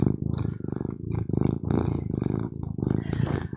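A domestic cat named Charlie purring right up against the microphone, a loud, rumbling buzz that swells and dips with each breath in steady cycles, with no other sounds around it.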